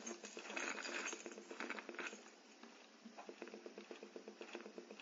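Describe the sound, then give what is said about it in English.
A bunch of keys is scooped up and jingled, a dense run of bright metallic clinks and rattles, fairly loud, thinning into lighter rhythmic jangling toward the end. No one speaks. “So, let's go and pick up the keys.”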